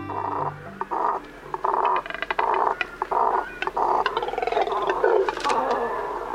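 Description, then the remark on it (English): A nesting colony of double-crested cormorants, large black water birds with short legs and long necks, gives deep, guttural, croaking grunts, many overlapping in rough bursts. The chorus is continuous and fairly loud, with no voices. “These deep, guttural sounds emanate from a nesting colony of double-crested cormorants, large black water birds with short legs and long necks.”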